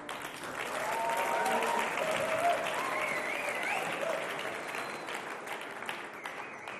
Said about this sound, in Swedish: Jag tycker vi klappar om bandet.